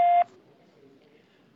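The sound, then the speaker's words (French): A single loud, steady electronic voicemail beep lasts about a quarter second at the start, signaling where to leave a message, then cuts off into faint low background murmur. “Veuillez laisser votre message après le bip.”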